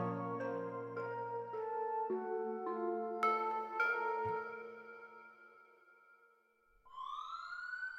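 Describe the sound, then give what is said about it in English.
Police car and ambulance sirens blare with overlapping wailing tones that shift pitch in steps, fairly loud, and a fresh siren sweeps upward near the end, as ambulances line a street and police cars pull up. No one speaks. “Ambulances lined the street, police cars were still pulling up, and police dogs were already patrolling in search of the large man who just wreaked havoc on this suburban family home.”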